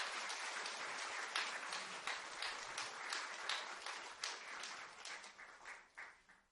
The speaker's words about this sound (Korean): 성도님들 모두 큰 박수로 축하해 주시기 바랍니다.